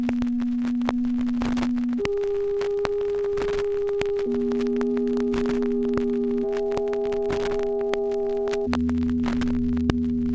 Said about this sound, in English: Sine wave, 264 hertz. Number five, sum and difference tones. Sine tone, followed by 440 hertz sine tone.